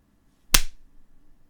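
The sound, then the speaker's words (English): A single sharp hand clap rings out fairly loud, then fades quickly into a faint low rumble. No one speaks. “I'm just clapping my hands.”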